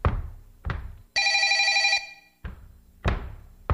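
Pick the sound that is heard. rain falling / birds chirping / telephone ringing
telephone ringing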